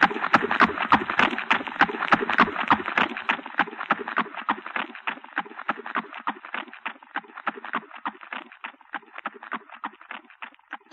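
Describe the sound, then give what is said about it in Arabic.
A dense, rapid clatter of the galloping hooves of horses ridden by approaching horsemen, many beats overlapping in a steady drumming rhythm, loud at first and gradually growing fainter over about eleven seconds, with no voices. “الله ده غبار وفرسان، لابد الملك النعمان. فين الحصان؟ فين الحصان؟”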